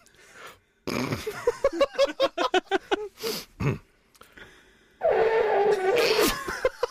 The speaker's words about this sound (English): Blow a raspberry. Like that.